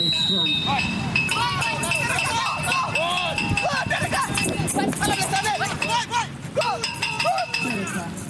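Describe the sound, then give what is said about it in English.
A small bell inside a ball used by blind soccer players, which lets them track its movement, rattles and jingles continuously in a bright metallic shimmer, mixed with running footsteps and a busy babble of players' voices and shouts. “That is an alarm from a ball used by blind soccer players. The ball is equipped with a bell that rings to alert the players to track its movement and fire a shot towards the goalpost, which makes noise to alert players.”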